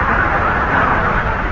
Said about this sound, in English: You hear the car?